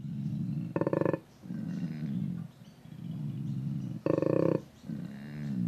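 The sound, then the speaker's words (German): A male koala named Thunder from Down Under at Taronga Zoo bellows in deep, rumbling, snore-like grunts, broken twice by louder, harsher bursts before the low pulsing rhythm resumes. “Der Klang von Thunder from Down Under, so der donnernde Name des Tieres im Zoo von Taronga.”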